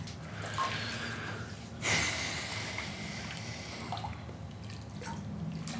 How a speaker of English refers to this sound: Whoa, what? Careful. You're splashing water all over the floor